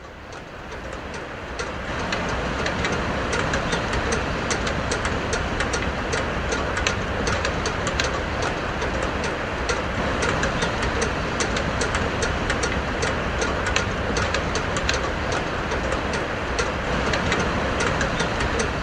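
Rapid, steady metallic clanging and clicking from banger boats driving dolphins in Taiji, recorded for a documentary. The clanging is layered over a constant engine-like rumble, rising after a short quieter opening and continuing densely throughout, with no voices.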